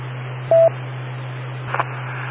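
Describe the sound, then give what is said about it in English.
A single short, loud telephone beep sounds at a steady mid pitch over a constant low electrical hum, followed a moment later by a couple of faint crackly clicks on the line. “Wait for the beep and tell us.”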